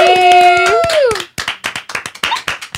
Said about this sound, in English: You're welcome, clap. You're welcome, applause. Oh, thank you. I'm just like, yeah, okay. Like, I don't know what I'm clapping for, but I'm joining.